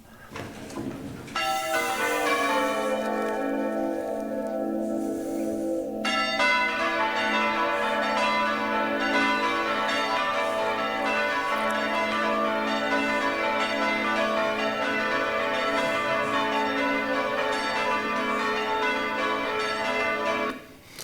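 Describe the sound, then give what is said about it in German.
Several large swinging church bells, rung by hand by hobby ringers who at times reach into the swinging bell and hold its clapper, ring together for about twenty seconds, loud, their overlapping strokes and long humming overtones forming a dense, continuous peal with no voices. “So, was ihr jetzt nicht gesehen habt, ist, dass die Kollegen dort, die italienischen Kollegen, die sowas als Hobby betreiben, mitunter in die schwingende Glocke eingegriffen haben und den Klöppel festgehalten haben, damit dieses Ding, Ding, Ding”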